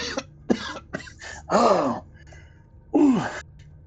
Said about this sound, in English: And as Yggdre, as you step down off of his form, having killed the last of his aggressors and now roused him from his unconsciousness with a really sharp blow to the sternum, he kind of coughs a bit.